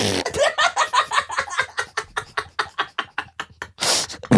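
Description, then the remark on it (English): A person vocally imitates a fart as a sound effect: a long, rapid series of sputtering, buzzy pulses that slow slightly, ending in a short breathy burst of noise. It is fairly loud. “Just do a fart sound. I will.”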